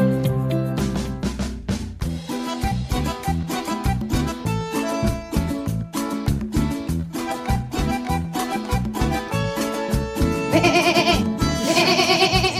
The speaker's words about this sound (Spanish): Es ella, es la conductora de este programa, escúchenla, es la oveja, porque estamos en el jardín y se trata de jugar.